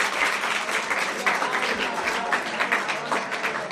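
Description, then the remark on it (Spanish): An audience applauds the people who had come up on stage, many hands clapping in a dense, continuous wash of sharp claps at a fairly loud, even level throughout. “Bueno, primero, un aplauso por supuesto para ellos.”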